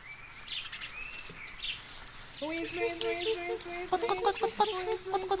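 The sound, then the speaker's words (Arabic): A hen that has entered her house clucks in a quick run of sharp, rhythmic calls to her little chicks, growing busier toward the end, with high chick-like peeps in the background. “أما أما يا أصدقائنا فإن دجاجة دخلت في بيتها وفجأة صاحت بفراخها الصغار.”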